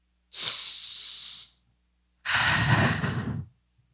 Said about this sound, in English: Definitely breathing a little deeper. Definitely taking as much energy, prana in as I can.